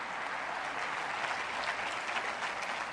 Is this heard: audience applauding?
yes